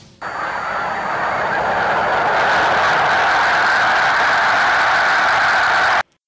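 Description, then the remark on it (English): A huge flock of snow geese takes off in a dense, steady roar of wingbeats and massed calls, loud and unbroken for about six seconds before cutting off abruptly. “Well, that dramatic sound is what a huge flock of snow geese sounds like when taking off.”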